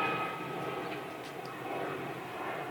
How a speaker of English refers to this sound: I don't think that's his plane, is it? Wow. I'd be impressed.